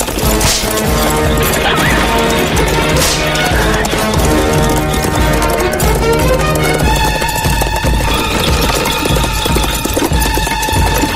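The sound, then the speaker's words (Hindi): Fast galloping hoofbeats and rattling cart noise of horses pulling a tonga as bandits chase it and Basanti whips a bandit, through a loud, dense action scene, with sharp crashing hits early on and dramatic orchestral music swelling over the steady gallop. “डाकू तांगे के पास आने की कोशिश कर रहा है। बसंती उसे लगातार चाबुक से मार रही है।”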